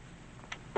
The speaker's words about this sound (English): She shuts the door.